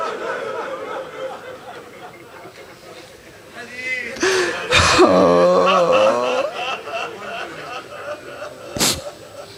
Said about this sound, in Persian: خیلی بازوقید این حرفی که من زدم، این گریه ای که بلند شد، همه تون پشت در خونه امیرالمومنین بودید.